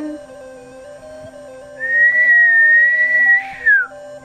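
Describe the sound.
Someone whistles to imitate howling wind: a long, steady, high note that holds for about two seconds, then bends and slides downward, over a soft sustained tonal hum.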